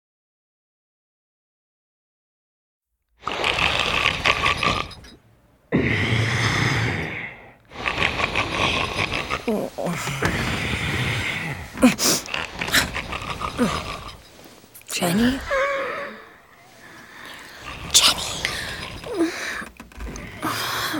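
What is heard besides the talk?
snoring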